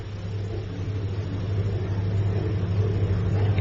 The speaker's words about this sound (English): You've got a Porsche. Is it a Porsche 911 out there?